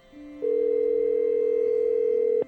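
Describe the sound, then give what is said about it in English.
A telephone ringing tone as a call is placed to a phone number found in a listing: one steady, mid-pitched electronic burst holding for about two seconds before cutting off, with a fainter lower tone underneath. No voices. “And the listing I'd found had a phone number, so I gave it a call.”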